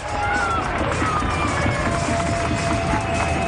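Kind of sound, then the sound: crowd, stadium crowd applauding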